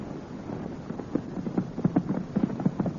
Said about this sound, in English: let's slow down to a gallop.